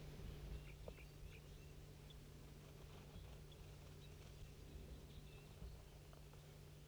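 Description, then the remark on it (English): A whole big flock of wild birds chirps in the tree right above, with many short, high twitters scattered irregularly throughout, fairly faint over a steady low hum and background noise. No one speaks. “There must be a whole big flock in this tree right above me.”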